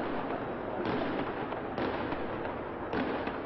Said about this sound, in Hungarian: 4 fénygránátot vetettek be a kommandósok, majd behatoltak az épületbe.